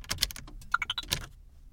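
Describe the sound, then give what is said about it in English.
A quick run of key presses as a secret code is punched into an all-electric car's keypad before starting the car, with several soft clicks followed by a series of short, high-pitched beeps rising in tone, then quiet. “First, I'm going to punch in the secret code.”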